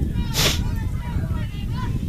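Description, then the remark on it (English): Strong wind at an outdoor ball game buffets the microphone in a continuous low, rumbling roar, with a short hissy gust near the start and faint indistinct voices beneath it. “Again, it's very, very windy out here, so if you hear a sniffling, we apologize ahead of time.”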